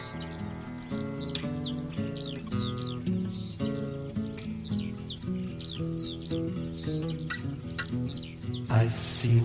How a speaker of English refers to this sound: In the sky, a bird was heard to cry.